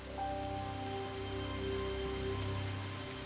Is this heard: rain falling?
yes